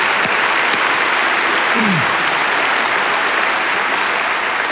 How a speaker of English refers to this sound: I know you clapped before, but come on, let's thank God for awesome.